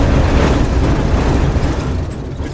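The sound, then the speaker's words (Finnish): An old, basic tram rumbles, clatters and squeals loudly over its tracks past Paavali church, a dense, continuous metallic rattle with heavy low-end roar and some grinding, steady throughout with no voices. “Tämä on sitä raitiovaunun ääntä. ei vihjellä eikä pihise, vaan kunnon kolinaa ja nirskunta.”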